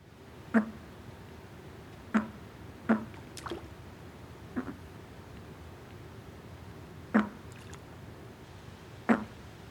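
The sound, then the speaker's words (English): A bullfrog gives a series of short, abrupt encounter calls, about seven quick low pulses spaced irregularly, against a quiet outdoor background with no talking. “Bullfrogs also give an encounter call, which is a quick foot.”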